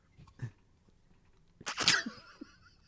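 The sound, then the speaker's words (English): A single sharp sneeze bursts out, a quick breathy intake followed by an explosive burst, with faint small noises before and after in otherwise quiet surroundings. “God bless you, mate.”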